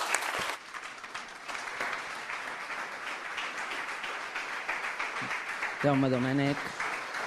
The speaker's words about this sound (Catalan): Aplaudiments a la sala de plens. Recordem que una sala plena de gom a gom, de veïns de la capital del Priorat, s'aixequen els nous regidors i l'alcalde